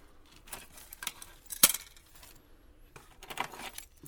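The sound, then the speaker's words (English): Car keys jangle in several short metallic bursts, with one sharp clink near the middle and a longer rattling shake toward the end. The sound is fairly quiet, with no one talking. “Hey, Leanne, where are the car keys?”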